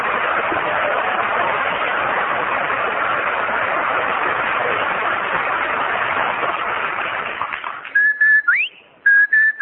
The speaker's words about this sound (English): I thank my lucky stars for that cheery Rinso White Bright whistle.